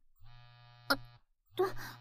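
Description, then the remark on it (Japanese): A mobile phone buzzes on vibrate with an incoming call from the owner's mother, in two droning pulses, a long low hum, a short pause, then another, with a brief sharp click in the middle of the first buzz. “ごめん、私の携帯。”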